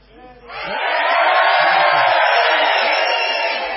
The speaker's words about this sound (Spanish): Vamos a hacer una experiencia para que la gente de Buenos Aires se dé cuenta de que aquí hay gente. Vamos a gritar todos a una.